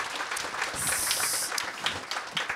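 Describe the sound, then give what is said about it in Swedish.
An audience applauds, a dense, steady patter of many hands clapping at once for a couple of seconds, with a thin high hiss riding briefly over the middle. “eller ska vi avsluta med en applåd så vi håller timeframen?”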